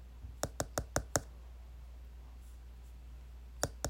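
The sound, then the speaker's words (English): A knocking pattern heard in the middle of the night in a 13-minute horror short film: five quick, evenly spaced knocks, a pause of a couple of seconds, then two more knocks. They are sharp and fairly quiet over a low steady hum, with no voices. “It's a certain knocking pattern, and it's just really scary, and the knocking, like, haunted me for days.”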